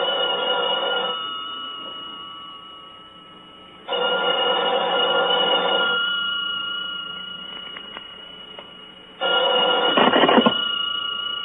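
A telephone rings insistently in a steady pattern of loud ringing bursts separated by short pauses, with no voices, just the rings over a faint background hiss.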